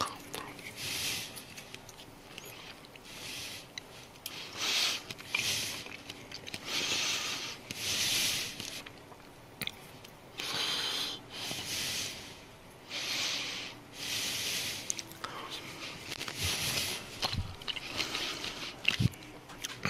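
Wet lip smacking right up against the microphone, repeating in uneven bursts over a soft breathy hiss, with a few sharper clicks toward the end.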